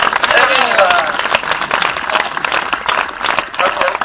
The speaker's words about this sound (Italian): Oggi è il mio compleanno. Un applauso! Grande! Grande!